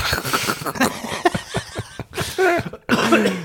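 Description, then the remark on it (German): A series of rough coughs comes in irregular bursts, mixed with raspy throat-clearing and short voiced grunts between them, with no talking. “Du hast ein kleiner Husten, hä?”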